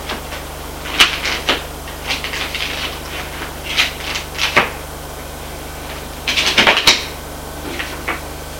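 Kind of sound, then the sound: household object, rummaging through papers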